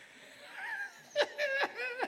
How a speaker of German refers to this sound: Komm, atmen wir mal ein bisschen laut.